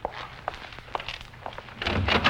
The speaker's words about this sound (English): Okay. You go to the door and throw it open.